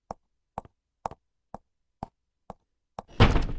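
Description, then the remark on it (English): Seven steady, evenly spaced thuds like footsteps moving off, then a door shuts with a loud, heavy slam and a brief rumbling rattle. “Oh, and close the door on your way out.”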